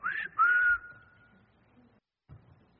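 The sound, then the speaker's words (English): A person whistles two clear notes, a short rising one followed by a longer held tone that slowly fades out, with no talking. “I will whistle for them and gather them.”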